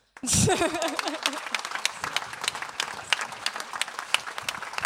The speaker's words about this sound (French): Un grand merci à tous les organisateurs évidemment, et puis aux profs et aux profs doc qui font un super boulot avec d'ailleurs, que ce soit les lycéens, les collégiens ou les écoliers, je pense qu'ils peuvent être carrément applaudis là maintenant.